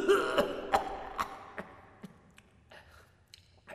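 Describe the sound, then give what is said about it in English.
A weak old man in bed coughs: a run of short, dry coughs, roughly eight in quick irregular succession, moderately loud at first, then trailing off softer, with no talking. “He coughs in her ear.”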